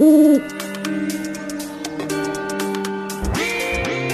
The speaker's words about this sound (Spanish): Sal al campo por las noches, si me quieres conocer. Soy señor de grandes ojos, cara seria y gran saber. ¿Quién soy? El búho.